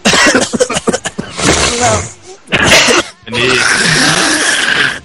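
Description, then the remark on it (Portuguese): Several loud coughing bursts in quick succession, followed by a longer rough, breathy outburst of coughing and spluttering that runs to the end. “Alguém mais quer tossir, espirrar?”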